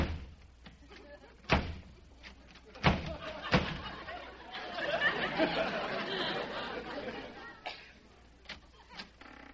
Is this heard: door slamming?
yes